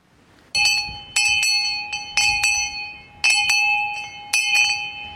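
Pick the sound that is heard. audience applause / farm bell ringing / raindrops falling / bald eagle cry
farm bell ringing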